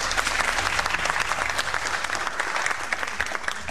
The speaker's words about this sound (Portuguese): Palmas rituais pra essa piada horrível